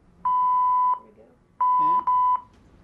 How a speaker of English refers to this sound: Fire, fire, fire. That's what that means. Three tones is fire.